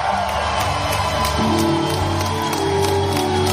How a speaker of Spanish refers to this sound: Es que, fíjate en la ovación con las que fueron recibidos.